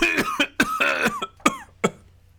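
A burst of loud coughing: four or five harsh, rasping coughs in quick succession, some with a throaty voiced tail, fading into quiet between the last ones.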